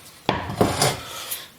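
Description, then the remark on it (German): A large cooking pot is handled, giving three sharp knocks followed by a brief scraping rub across a hard surface, then a faint clink near the end. No voices. “Ja, großer Topf.”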